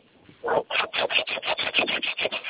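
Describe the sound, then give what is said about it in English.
A hand saw cutting through a wooden board in quick back-and-forth strokes, about ten rasping pulls in a steady rhythm, fairly loud with no talking. “Sounds like somebody's sawing a board.”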